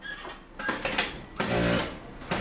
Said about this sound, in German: Die Nähmaschinen rattern in einem hellen Raum im Gemeindezentrum des Roten Halbmonds im Istanbuler Arbeiterviertel Bağcılar. Die Fenster sind trotz eines Gewitterschauers weit geöffnet.